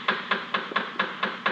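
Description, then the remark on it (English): A quick, steady run of about seven sharp knocks on a door, evenly spaced and moderately loud, with no voices around them. “The door.”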